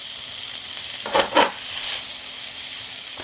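Steady, bright hiss of asparagus and red peppers, seasoned with salt and pepper, sizzling in a frying pan, with two brief louder crackling bursts early on, then a constant frying sizzle with no talking.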